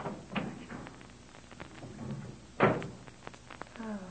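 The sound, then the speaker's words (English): A door opens and shuts with a single solid thump partway through, surrounded by softer shuffling and light knocks. “Right out through that door there.”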